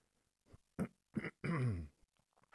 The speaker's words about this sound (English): Got a bit of a cough.